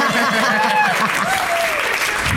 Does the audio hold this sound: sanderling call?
no